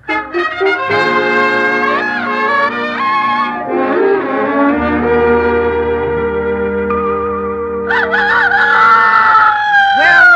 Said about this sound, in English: ever seen a fighting bird like that?